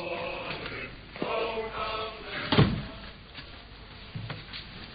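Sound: door being shut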